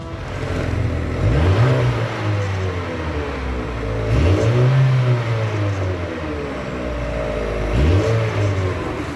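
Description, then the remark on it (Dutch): A car engine revs up three times, each burst rising sharply in pitch and falling back to a steady low rumble between them, loud and continuous with no talking. “Ik wil heel graag het geluid horen.”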